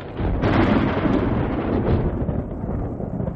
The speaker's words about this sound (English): The sky opened suddenly and rain poured down. What in the world? Where did the storm come from?